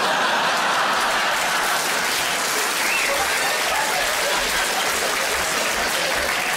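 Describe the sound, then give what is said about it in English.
A crowd applauds steadily, a dense wash of many hands clapping at once, loud and sustained for several seconds with no one speaking over it. “I don't quite know what that round of applause was for.”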